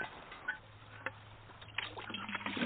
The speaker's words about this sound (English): We fill the buckets up.